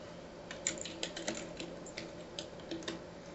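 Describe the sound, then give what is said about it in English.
Quick, irregular clicks of someone typing the word "henchman" into an image search on a computer keyboard, fairly soft, with keystrokes coming in short bursts over a low steady background hum. “Are you just typing in henchman to Google Images?”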